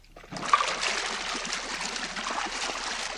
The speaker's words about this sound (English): It's a whirlpool bath, sir. I think you'll enjoy it.